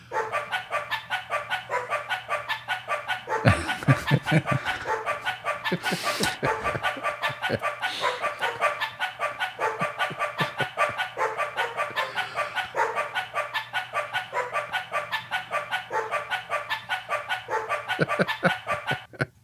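Rapid, evenly spaced dog barks pitched into a guitar melody, repeating steadily in a dense rhythmic pattern for the whole stretch, loud with no talking.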